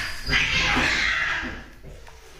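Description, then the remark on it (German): A single drawn-out cat cry in the early morning, loud, rising into a strained wail that lasts about two seconds before trailing off into quiet. “Ja, die haben es mal wieder, die Katzen. Am frühen Morgen.”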